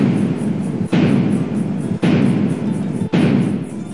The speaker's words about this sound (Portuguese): 21 tiros de canhão ribombaram das fortalezas que protegiam a Baía de Guanabara em saudação ao príncipe regente.